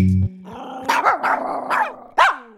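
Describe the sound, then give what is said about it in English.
A small dog snarls with a steady, rumbling growl, breaking into about five sharp, high-pitched yaps. Fairly loud, with no one speaking. “Small breeds, chihuahuas, they're mean. They're cute, but they're mean.”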